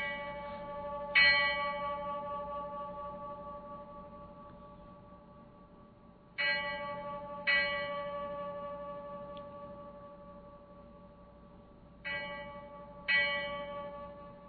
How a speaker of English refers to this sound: It's a wonderful resonance, and it's a large bell. And we're very grateful to the BIA, who were very cooperative in letting us actually ring the bell.